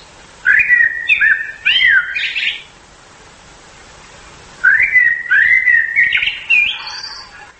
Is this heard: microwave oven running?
no